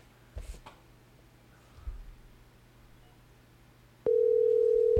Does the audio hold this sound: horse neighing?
no